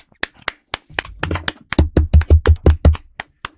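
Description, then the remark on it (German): Knocking on a table as applause: a few scattered light taps, then a steady run of about eight solid, low thumps in quick succession, ending with a couple of softer knocks. No voices. “Ich habe auf den Tisch geklopft.”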